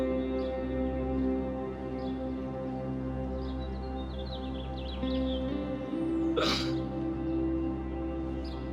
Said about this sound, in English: We all heard that cough.